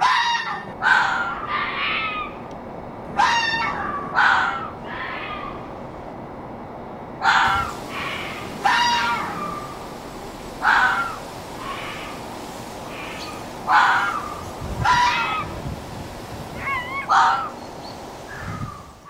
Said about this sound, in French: Voilà, donc vous venez d'écouter le glapissement du renard, donc le cri qu'il émet lors de la reproduction, donc comme je le disais, qui se déroule entre le mois de décembre et le mois de février.